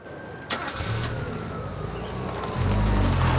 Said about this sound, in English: He watches Hansen drive off, then turns back to look at the hospital, cutting a lonely and isolated figure.